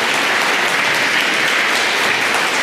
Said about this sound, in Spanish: Aleluya, dele un aplauso al rey. Más fuerte. Más fuerte, aleluya.